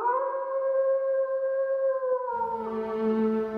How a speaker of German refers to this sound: Warum heulen Wölfe?